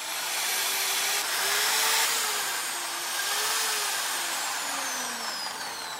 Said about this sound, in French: Ça, c'est une perceuse. Ça, c'est ça, je prends pour pouvoir percer le trou. C'est pour faire le trou. C'est okay. Pour faire les trous comme ça.